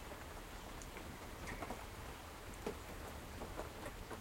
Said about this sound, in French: Bah là, déjà, il pleut un petit peu, du coup, ça sent beaucoup les champignons, la terre et tout.